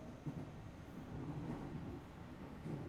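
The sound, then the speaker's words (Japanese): Steady low rumble inside a moving train with the air conditioning on in hot weather, a continuous droning hum with faint rattles and slight swells in loudness, fairly quiet and without any voices. “君も今帰り？同じ電車なんて偶然だね。”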